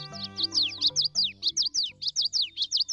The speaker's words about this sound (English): Late spring and early summer are the peak of birdsong.